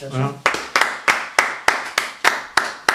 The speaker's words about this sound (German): Du darfst ruhig klatschen.